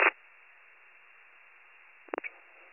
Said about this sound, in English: it's still not making it. It's all static.